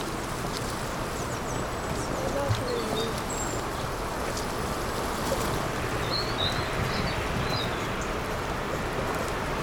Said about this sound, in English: Hear those birds?